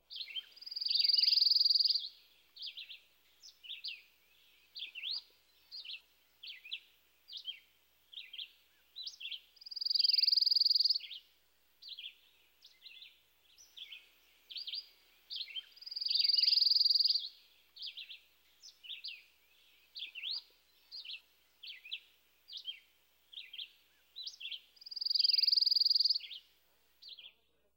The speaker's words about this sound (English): Many pine warblers sing a less musical trill. The song might better be compared to the chippy, but it has a soft, lazy quality.